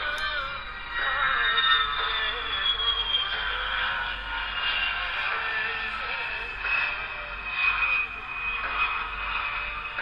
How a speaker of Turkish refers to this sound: Mesela bu sefer Alt Shift 2'yi veriyorum. Pardon, Alt Ctrl 2'yi veriyorum. Bu da bir jet uçağı efekti.